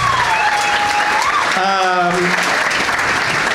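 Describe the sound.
Steady, dense audience applause for three guests of a comedy show, filling the whole stretch at a loud, even level, with a few brief tonal whoops or voices rising through the clapping midway.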